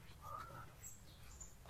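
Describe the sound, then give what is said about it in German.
A few faint, brief bird chirps sound over a low outdoor background rumble with no one speaking, after rain, with damp ground and cool air at nearly autumn. “Oder hören nur wir das Gezwitscher?”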